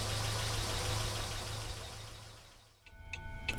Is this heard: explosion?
no